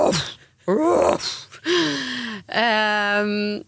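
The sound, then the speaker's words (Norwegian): A person imitates a big dog's deep barks, giving several loud, drawn-out woofs in a row, each harmonically rich, with brief pauses between them. “Den hunden har stått ute I en time og nibjeffa. Og det en litt sånn stor hund, så det veldig sånn...”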